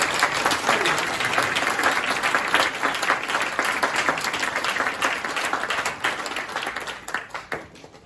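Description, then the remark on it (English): Steady, dense audience applause for a female performer at a concert, with many overlapping claps forming a loud, even wash of sound that holds for several seconds, then thins and fades toward the end. “Another round of applause for her.”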